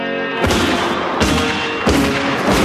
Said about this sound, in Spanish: El coche portugués hace saltar los airbags. Pazos abre el maletín a tiros. Fátima dispara a los airbags.